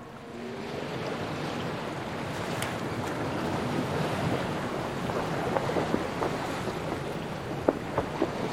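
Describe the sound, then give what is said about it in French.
Gentle waves wash steadily on a relatively calm sea around the Auckland Islands, south of New Zealand in the Pacific Ocean, beneath a soft, continuous light west wind, with a few faint creaks and knocks toward the end, as if from a boat. No one speaks. “Un léger vent d'ouest souffle en ce matin de janvier 1864. La mer est relativement calme, ce qui n'est pas si fréquent autour des Auckland, petit archipel inhabité, perdu dans l'océan Pacifique, au sud de la Nouvelle-Zélande.”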